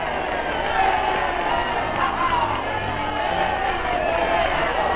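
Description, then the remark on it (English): A huge crowd in New York's Times Square cheers VE Day, roaring nonstop for the full stretch, a dense, steady wall of voices with occasional whoops rising out of it, sounding thin and muffled like an old newsreel recording. “In New York's Times Square, and in every city, town, and hamlet, millions cheer VE Day.”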